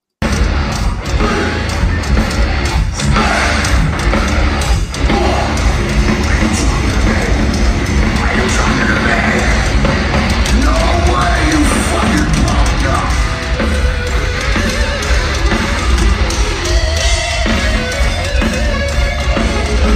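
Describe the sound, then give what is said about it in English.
A loud, dense live concert recording plays continuously for the full stretch, with a raw, distorted instrumental solo driving over a full band and crowd noise. “So, all right, we'll play through the solo.”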